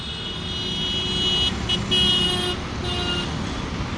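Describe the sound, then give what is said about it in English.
Dense morning rush-hour traffic on Tonk Road in Jaipur, India. Hundreds of horns from cars, scooters, motorcycles and tuk-tuks honk and overlap almost nonstop, high-pitched toots layered over a steady low rumble of engines, loud. “The air is engulfed with the sounds of hundreds of horns relentlessly”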